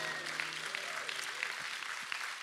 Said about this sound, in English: Thanks, worship team. You can go, and I'm going to get you back very soon. Aren't they awesome? Give them a big hand.